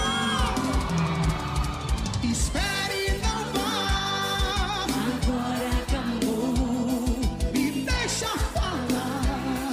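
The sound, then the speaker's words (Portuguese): A loud, dense crowd screaming and cheering nonstop, with high-pitched yells and whoops rising over a steady roar and heavy low thumps throughout. “Cadê o gritinho das minhas carregadas?”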